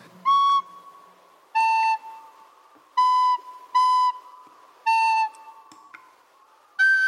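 Six short, bright whistle notes blown one at a time on a tube whistle, with pauses between, the pitch shifting slightly from note to note and the last note higher, as a little ball moves up and down the tube and a lock mechanism disengages. No voices.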